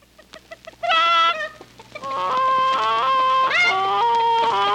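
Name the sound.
chicken clucking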